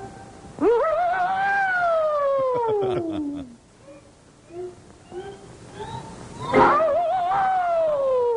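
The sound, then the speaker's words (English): A wailing, siren-like scream rises sharply, then slides slowly downward for a few seconds. After a pause with scattered short yelps, a second wail swoops up and holds. It sounds like voices imitating a cartoon air raid siren, presented as Japan's finest air raid siren in the cartoon Tokyo Jokyo, made by characters kicking each other. “We are now privileged to witnessing demonstration of Japan's finest air raid siren.”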